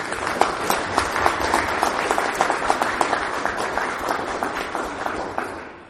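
Sustained audience applause for candidates before results are announced, many hands clapping in a dense, crackling wash that holds steady for several seconds before tapering off slightly at the end.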